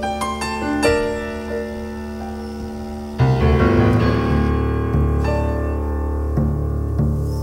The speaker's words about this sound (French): on va écouter la version en public à la Cigale, avec piano, violoncelle et clarinette.